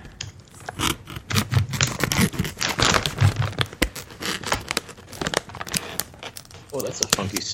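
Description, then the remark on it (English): Scissors cut open a crinkly plastic bag of Twister salt-and-vinegar and barbecue snacks, producing loud, continuous crackling and rustling with sharp bursts of crinkle throughout. “So let me go away from the mic here for a second and grab my bag of Twister.”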